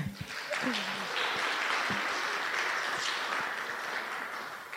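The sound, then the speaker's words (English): An audience claps for people who have come up to be interviewed, in a steady, dense wash of applause that holds for several seconds before easing slightly, with a few faint voices and whoops mixed in. “But can we just give them a clap?”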